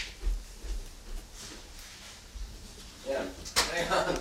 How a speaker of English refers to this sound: Sorry. I had to move the door.